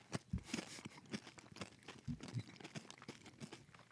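Crunching and chewing of Doritos tortilla chips, a dense, irregular run of crisp crackling bites with no talking, fairly quiet overall and ending on a sharp crunch.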